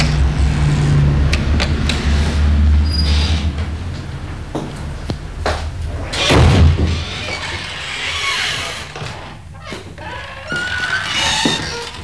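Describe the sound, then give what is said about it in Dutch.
The front door of a squatted building, a former hotel, is opened and shut, with a few sharp clunks and knocks scattered over a steady low rumble and no one talking. “Ik doe het open en kom wel even naar beneden.”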